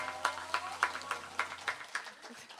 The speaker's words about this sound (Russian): Аплодисменты, еще больше аплодисментов Роли, да. Поддержим ее.